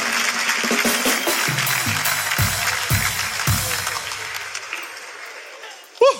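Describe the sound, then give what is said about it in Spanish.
A crowd applauds steadily for several seconds, dense clapping that thins and fades toward the end, with a few voices calling out underneath before a brief sharp sound closes it. “Un fuerte aplauso para mi amiga, por favor.”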